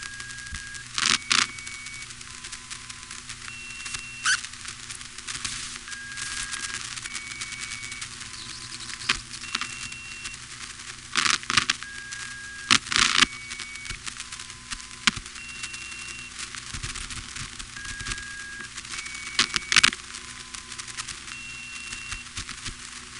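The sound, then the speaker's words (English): Telephone network signaling tones recorded in Sanford, North Carolina, in March 1977: short, steady beeps at a few different pitches repeat in sequence every few seconds over a constant hiss, broken by loud crackles and clicks. They are the same tones heard at Cabot, but the lowest is missing and the order is reversed. “It's the same tones, although the lowest one from Cabot doesn't come through in Sanford, and they've also got them in the wrong order.”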